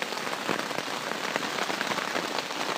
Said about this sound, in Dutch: Het blijft nu maar regenen. Op deze manier is het dus onmogelijk om zelfs buiten te komen, laat staan uw tent in te pakken.